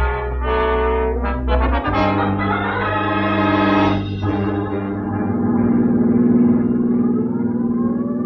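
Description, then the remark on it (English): Police car sirens wail loudly and continuously, their pitch rising and falling in overlapping sweeps over a low engine rumble, with no voices. “It's your show from here on in. Sirens included.”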